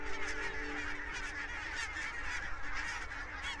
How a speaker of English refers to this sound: This time of year sees the arrival of many species of migrant birds coming here to overwinter in our slightly warmer climate. One of these is the barnacle goose.